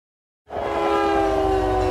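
After a moment of silence, loud freight train noise heard from inside a boxcar abruptly starts and holds steady: a deep rumbling roar beneath a sustained, horn-like metallic drone, enveloping, with no voices.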